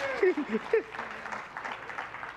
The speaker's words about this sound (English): And yeah, go ahead, clap, single people. You better clap by faith.